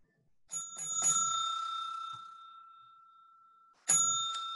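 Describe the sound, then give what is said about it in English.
A bell rings with a few quick strikes, its bright metallic tone lingering and slowly fading, then it rings sharply again about three seconds later. No one speaks. “I don't know what the bell is, but it happened at exactly the right time.”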